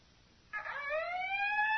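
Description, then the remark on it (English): A howling alarm siren blares warnings over the Maw installation's intercom, bursting in after a brief silence and holding a steady, slowly rising wail with a tinny, buzzy edge that swells slightly louder. “Howling warnings shrieked through the Maw installation's intercom so monotonously that Tal Sivran found it difficult to plan his emergency speech.”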